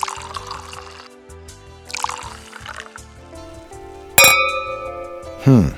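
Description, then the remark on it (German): Wine splashes into a glass in two short pours, followed by a bright, ringing glass clink and a final knock, over a steady low background hum. “Warte, ich schenke noch ein bisschen Wein an.”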